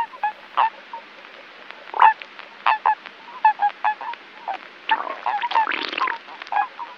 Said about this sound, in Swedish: Vanlig padda spelar med många läten, ofta metalliska och spruckna ljud som liknar en krickas eller en avlägsen sothönas läten.